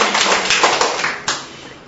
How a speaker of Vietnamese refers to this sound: Xin nhận một tràng pháo tay để chúc mừng những người nhận thánh Geronimo làm bổn mạng.